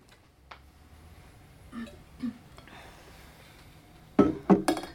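Mostly quiet rustling and faint handling sounds as someone gets a bit of water to drink, followed near the end by a few sharp, bright clinks of glass on glass or a hard surface. No one speaks.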